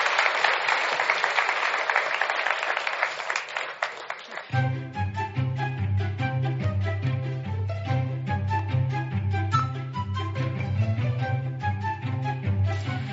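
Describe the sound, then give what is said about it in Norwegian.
An audience claps loudly for about four seconds for three guests, a dense burst of applause that gives way abruptly to upbeat music with a steady, pulsing bass line. “Gi dem en applaus.”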